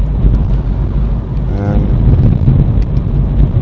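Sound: car driving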